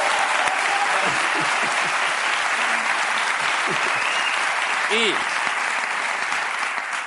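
A crowd applauds steadily for several seconds, a dense, even wash of clapping that stays loud throughout, with a few faint shouts or whoops rising from within the audience.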